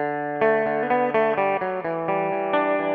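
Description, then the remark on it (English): A six-string electric guitar plays a quick, bright riff of about ten ringing notes in a steady rhythm, each note sustaining into the next at an even, moderate loudness with no voices. “And here it is on 6th string.”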